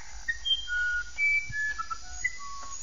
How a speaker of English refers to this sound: we are going right now back to the birds. The uirapuru is a famous bird of the Amazon.